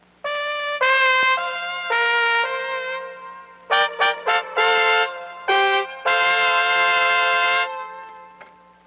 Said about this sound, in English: Here is a pre-recorded trumpet sound. The sound can be displayed visually on the machine in various ways. The pitch of the trumpet sound can be controlled on the keyboard.